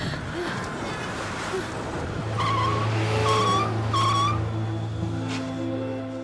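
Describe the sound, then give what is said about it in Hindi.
A car skids with tires screeching in several sharp, high-pitched squeals over a steady low engine rumble, loud, with busy background noise. “अरे कैसे गाड़ी चला रहे हो?”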